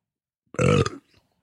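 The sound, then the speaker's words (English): A single short, loud burp after drinking coffee, with a low, rumbling tone, about half a second long, followed by a faint trailing breath in otherwise quiet surroundings. “Oh, that was a coffee I just had.”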